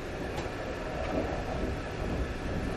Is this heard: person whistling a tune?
no